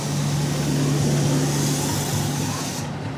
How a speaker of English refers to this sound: That truck passing by, that was some of our local sanitation workers.